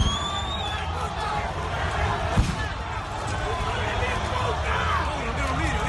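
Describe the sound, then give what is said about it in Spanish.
Fans ambush the Boca Juniors team bus on its way to River Plate's stadium, hitting it with stones and bricks and breaking windows, amid a loud, chaotic crowd. One sharp, heavy impact stands out over the constant roar of shouting voices and scattered thuds. “Bueno, pedradas, ladrillazos, rompían lunas, como decimos, jugadores afectados.”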